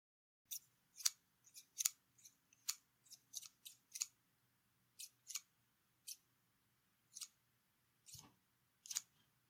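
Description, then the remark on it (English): Scissors snip through fabric, about eighteen crisp cuts in uneven bursts, some quick pairs, with short pauses between. A soft low thump comes near the end. No one speaks. “look what I just found. The scissors.”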